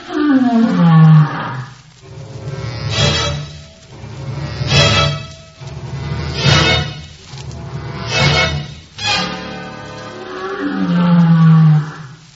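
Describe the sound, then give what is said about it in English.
A lion roars and grunts in a rhythmic series: a long, deep, loud roar opens, followed by several shorter throaty grunts spaced about every second or two, then another heavy roar at the end. “Sounds like an old timer. Listen to those grunts.”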